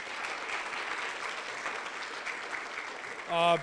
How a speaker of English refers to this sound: So these kids did very good completing their books. And even if they didn't get there, it's a lot. So I just think that it's worth a round of applause to them as well.